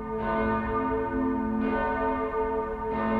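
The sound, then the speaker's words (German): The large Ursula bell of St. Ursula church in Cologne, rung automatically, sounds loudly: three deep, resonant strikes spaced evenly, each rich humming tone lingering and overlapping the next. No voices are heard. “So lautet übersetzt die lateinische Inschrift der großen Ursula-Glocke.”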